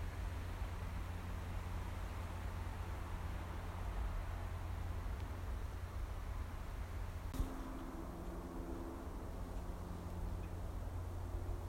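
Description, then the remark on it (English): A steady hum of aircraft from Leeds Bradford Airport, on the other side of the Chevin from Otley, drones on without a break, a broad low rumble that stays constant throughout, with a faint tonal whine rising briefly partway through. “That's because on the other side of the Chevin to Otley is Leeds Bradford Airport, which after lockdown's silence when it was just eerie, it's now back to its constant hum that I've been used to living in this area all my life.”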